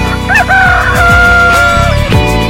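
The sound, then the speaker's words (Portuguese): A rooster crows loudly, a long drawn-out cock-a-doodle-doo rising and stretching out, with a steady low rhythmic backing running underneath. “É, o Galo tá aí, minha gente, o Galo tá aí com você, comigo.”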